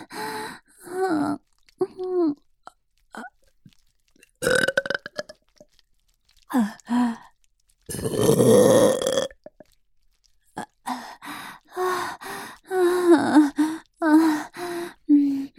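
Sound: burping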